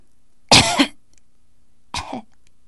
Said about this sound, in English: In reply, she heard a deep but delicate cough.